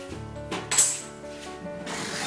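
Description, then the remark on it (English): Crockery clinks as Scott Mills makes a cup of tea: two sharp, bright clinks in quick succession, the second louder, over a steady tonal hum, with no one speaking. “Scott Mills is making me a cup of tea.”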